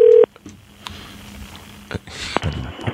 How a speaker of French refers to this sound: Je sais pas où on appelle, mais ça va sonner.